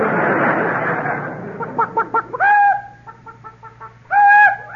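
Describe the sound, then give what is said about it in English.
A voice imitates a clucking chicken: a run of quick, choppy clucks followed by two drawn-out squawking cackles, loud, with no other talk. “That's cluck.”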